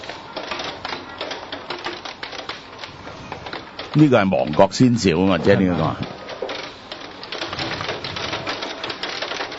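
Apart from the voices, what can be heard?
hail falling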